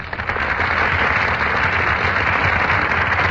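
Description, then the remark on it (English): A steady wash of applause from a theater audience as actors Brian Ahern and Joan Fontaine enter the Gulf Theater stage, dense, even clapping that holds at a constant loudness for a few seconds, with no voices over it. “That burst of applause, ladies and gentlemen, is for Brian Ahern and Joan Fontaine, who are just entering our Gulf Theater stage.”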